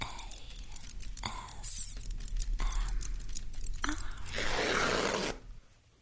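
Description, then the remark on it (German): Crisp crinkling and tearing of plastic packaging being pulled off a new roll of paper towels, in several sharp bursts ending with a longer rustling rip before falling quiet. “Ich greife hinter die Kamera nach einer neuen Rolle Papiertücher. Ich beginne, die Plastikverpackung zu entfernen.”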